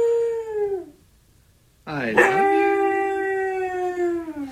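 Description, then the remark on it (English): A husky named Rocky, the iPad Today mascot, howls twice, the first call sliding downward and fading, then after a short pause a second howl sweeps up and holds a long, steady, wavering tone. Someone speaks briefly. “Huskies are very bright.”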